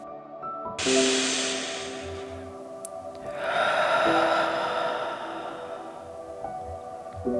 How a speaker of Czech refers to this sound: Hlubokým nádechem nosem naplníme celé své plíce. Na chvíli dech zadržíme. Potom vydechneme pusou. Budeme předstírat, že jsme draci, co chrlí oheň. Připraveni? Hluboký nádech a hluboký výdech.